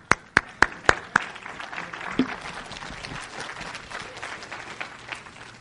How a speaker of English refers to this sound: Hallelujah. Be clapping.